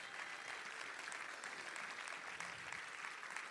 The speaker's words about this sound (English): Can we give the Lord one more hand clap of praise?